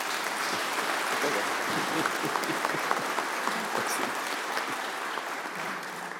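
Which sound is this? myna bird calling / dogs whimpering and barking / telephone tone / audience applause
audience applause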